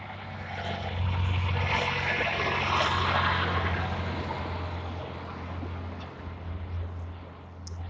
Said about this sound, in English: Oh, big truck coming.